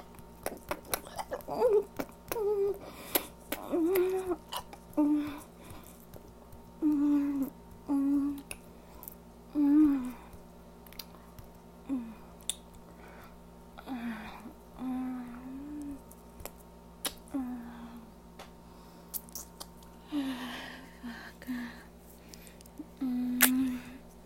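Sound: chewing and swallowing food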